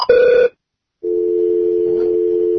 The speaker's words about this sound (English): Dial tone. Now we lost the guy from Detroit.